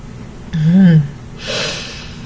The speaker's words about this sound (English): Hearing my gasp, you call out one moment.